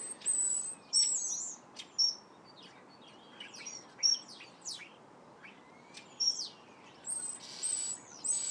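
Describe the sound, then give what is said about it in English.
A garden bird calls over and over, with bright, high chirps and short whistles coming in quick, irregular bursts against a steady outdoor hiss. No one speaks. “One of the most common birds. It's actually one of the most attractive in many ways.”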